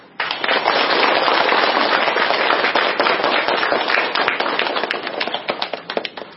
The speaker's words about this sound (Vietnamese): Xin quý vị Phật tử cho một tràng pháo tay thật lớn để đón chào đại đức.